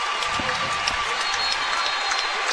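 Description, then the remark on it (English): A large arena crowd cheers and applauds steadily as Max Thompson wins his fourth straight state championship title, a dense wash of clapping and roaring voices holding at an even, loud level throughout with no clear pauses. “You can hear this place come to life.”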